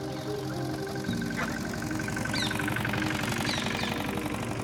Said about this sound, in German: Gerade noch springt ein Scheunentor auf und ein Traktor brummt gemütlich an uns vorbei. Hinaus auf die Felder treibt ihn sein Weg zu dieser frühen Stunde.